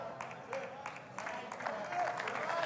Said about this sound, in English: Thank you. I got one hand clap. I appreciate it. The rest of you are a little late on the draw, but you're good.